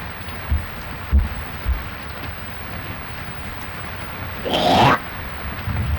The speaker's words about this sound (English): Yeah, this is a dandy rain. Sure is. Cool things off for a while.